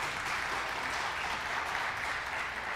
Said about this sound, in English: You can clap for him. You can welcome.